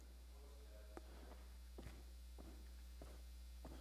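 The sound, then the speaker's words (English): Footsteps walking at a steady, unhurried pace, about five soft thuds spaced roughly half a second apart, fairly quiet against a constant low hum. “Yep, footsteps.”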